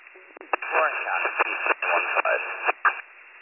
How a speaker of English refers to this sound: I believe I'm getting something about BLS 2150, but again, it's coming in a little static.